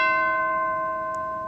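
A single bell strikes and rings out with a bright, steady tone, its shimmering overtones sustaining and slowly fading over a second and a half. No voices are heard.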